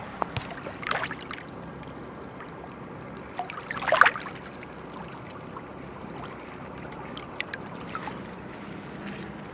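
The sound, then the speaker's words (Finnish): Sea water sloshes and laps against slippery rock, a steady wet churn with a few sharper splashes, one louder slap near the middle, no voices. “Ehkä meri tässä yrittää sanoa, että olen tehnyt kallion niin liukkaaksi, että yritän saada sinut putoamaan pyhän sisään.”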